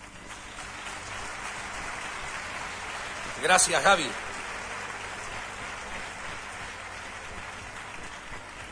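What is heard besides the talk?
audience applause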